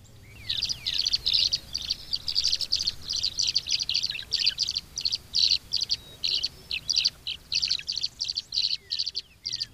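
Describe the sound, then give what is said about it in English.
Swallows at the Arkansas Game and Fish Nursery Pond on Beaver Lake, east of Rogers, Arkansas, chirp in a steady stream of rapid, high-pitched twittering notes, bursts following one another almost continuously with brief gaps, over a faint low background rumble. “I recount this story because there's no such problem with tree swallows.”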